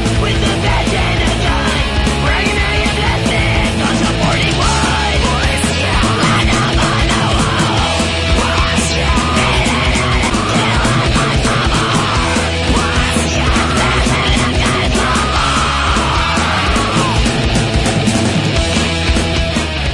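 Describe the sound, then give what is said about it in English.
A loud, dense punk song plays throughout, with harsh screamed vocals over pounding drums and distorted guitars that never let up. “I don't like that kind of screaming. It's like rap, but screaming rap, I don't know.”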